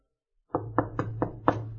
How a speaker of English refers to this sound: This is exactly what happened in your life, Tom. You heard that knock.